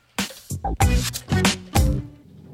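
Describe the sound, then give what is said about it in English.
Loud buzzing of bees in several thick bursts, rising and falling over a couple of seconds with brief gaps between swells. “Hi, the bees.”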